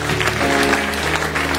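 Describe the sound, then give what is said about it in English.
An audience applauds during a service in a steady, dense patter of many hands clapping at once, sustained and fairly loud throughout, with a faint murmur of voices underneath. “So let's put our hands together.”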